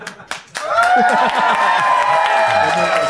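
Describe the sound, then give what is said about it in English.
A lone person claps a few times, sharp and sparse, in congratulation for someone having a son, before a loud, steady wash of overlapping voices swells up and drowns everything out. “I mean, one person clapping a son.”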